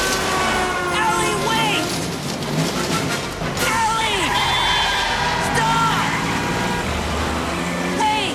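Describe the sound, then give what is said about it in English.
A car drives off along a busy highway, with steady, loud road noise throughout and rising, horn-like tones sweeping in and out over the traffic. “Eddie's car drives off down the highway.”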